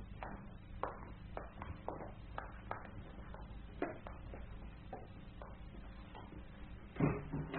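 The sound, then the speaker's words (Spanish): A man and his daughter leave through a door: a run of soft, irregular taps and clicks, like footsteps, then a louder, duller thump of the door shutting near the end, over a low steady hum. “y su bella hija desaparecieron tras la puerta.”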